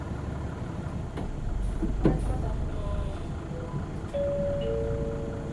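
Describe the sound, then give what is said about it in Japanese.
A bus bound for Keisei Narita Station rumbles low and steady as it pulls away from a stop, with a brief clunk partway through and a rising mechanical whine near the end. “このバスは、水戸市の中華台急流、京成成田駅行きでございます。”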